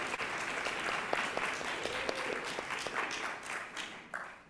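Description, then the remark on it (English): An audience at UUCPA applauds steadily, many hands clapping in a dense, crackling wash that holds at an even level for several seconds before thinning out near the end. “I think that deserves a round of applause, please, for everybody.”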